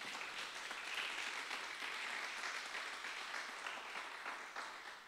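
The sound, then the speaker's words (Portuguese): An audience applauding the Lord during a sermon: many hands clapping in a dense, steady wash that holds evenly for about five seconds, with no voices rising above it. “Dá um aplauso ao Senhor, então.”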